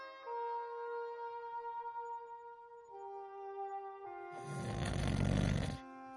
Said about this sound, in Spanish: Scrooge se despertó con un enorme ronquido.